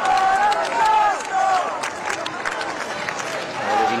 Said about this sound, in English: As the Pope appeared from his balcony of Gemelli Hospital, the crowds that had gathered to see him cheered and shouted his name.